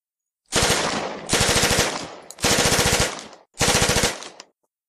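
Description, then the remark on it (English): A worn Thompson submachine gun, aimed from under the stringers at the edge, fires four sustained automatic bursts, each a rapid, evenly spaced stream of loud, sharp reports lasting close to a second, separated by brief pauses. “He reached inside, revealed a worn Thompson machine gun wrapped in yesterday's paper, walked over to the edge, climbed down under the stringers, and aimed.”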